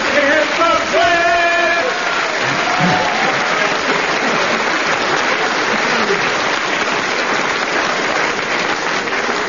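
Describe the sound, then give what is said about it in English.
A dense, steady burst of audience applause for a performance fills the whole stretch, loud, with a brief voice or cheer near the start before the clapping takes over. “They were nowhere near it, but since they got exactly the same amount of applause from the audience, I suppose I better give them the same amount of marks, -2.”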